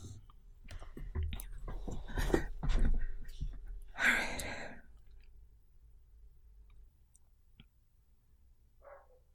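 A dog across the street gives a single sharp bark midway through, then a shorter, fainter bark near the end, following a stretch of clicking and rustling noises.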